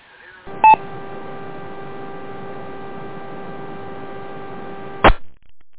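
An amateur radio repeater on the Black River Valley Service Net keys up with a sharp burst, then about four seconds of steady hiss and hum carry no voice at all, ending in another abrupt burst and squelch tail.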